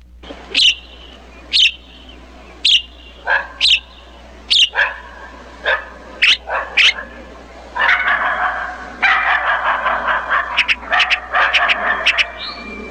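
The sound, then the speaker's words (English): Dogs at Jim Venable's home bark in sharp, evenly spaced single barks at first, then break into a louder, overlapping flurry of barking from several dogs toward the end. “The dogs are there.”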